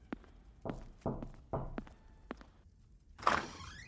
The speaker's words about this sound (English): Well, who would have thought? We got a guest here today. Someone's knocking at the door. Let's go see who it is, boys and girls, ghouls and goblins.